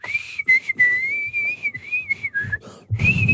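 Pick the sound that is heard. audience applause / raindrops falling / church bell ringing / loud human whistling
loud human whistling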